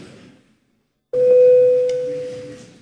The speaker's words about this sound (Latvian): Paldies, lūdzu zvanu.